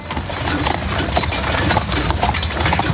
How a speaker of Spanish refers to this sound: Te hablo de los coches de caballos.